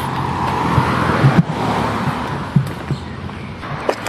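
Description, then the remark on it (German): A car being opened and a bag thrown in: a few short thumps and clicks, including a sharp one mid-way, over a steady hiss of outdoor background noise, with no voices. “Zack, Auto auf.”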